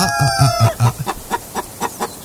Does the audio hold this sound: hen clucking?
yes